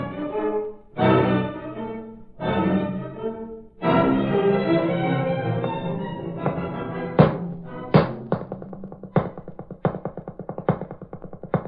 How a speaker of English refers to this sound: Come on, stop socking that bag.